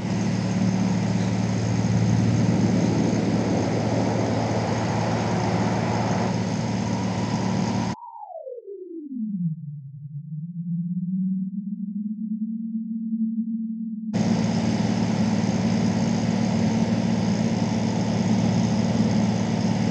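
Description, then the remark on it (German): A heavy engine of a parked truck idles with a steady, droning low rumble; midway the noise drops out, leaving a lone tone that glides downward and settles into a hum before the full idle returns. “Nichts anderes als ein simpler LKW, der wo irgendwo steht.”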